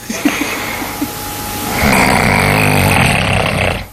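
loud human snoring

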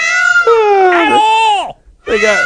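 peacock calling

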